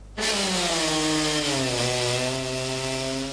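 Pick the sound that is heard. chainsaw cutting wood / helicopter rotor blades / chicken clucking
chainsaw cutting wood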